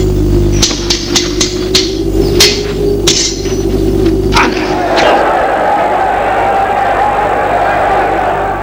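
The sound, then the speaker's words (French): A loud crowd watching a sword fight shouts and roars in a dense, continuous wall of voices, with a string of sharp clanking sword strikes ringing out during the first few seconds before the yelling swells higher. “La foule, qui était jusque-là, était restée silencieuse en voyant Godefroy saigner, se mit à pousser des grands cris.”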